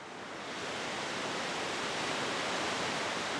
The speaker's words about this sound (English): excess spring meltwater is rushing through a channel on the side of the dam called a bypass.